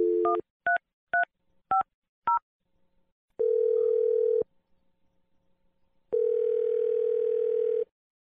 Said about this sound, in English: Here we go. I'm dialing the number now.